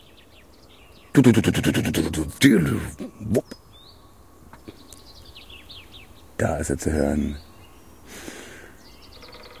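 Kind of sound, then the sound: bird, common chaffinch singing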